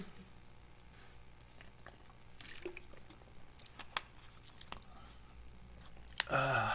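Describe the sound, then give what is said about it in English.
Quiet sips and soft swallowing of water with small wet clicks, ending in a louder clunk or rustle, like a cup being set down. “We're going to see how far we get after I get a drink of water.”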